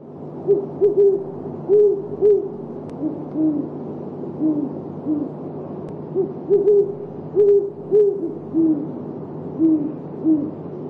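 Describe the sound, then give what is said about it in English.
Deep, soft hoots from a great horned owl come in rhythmic series, a few low notes grouped together and repeated several times, over a steady low hum with no talking. “Today's focus on phenology are great horned owls.”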